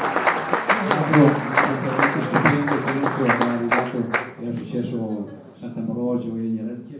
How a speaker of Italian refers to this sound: a cui facciamo un applauso, grande legnanese, grande uomo di palio.